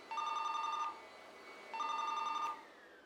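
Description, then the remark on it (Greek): A telephone rings twice as a friend calls at around 3 o'clock, each ring a rapid electronic trill lasting under a second, separated by a short pause. It sounds clear, with no one talking. “Γύρω στις 3 η ώρα με παίρνει μια φίλη τηλέφωνο”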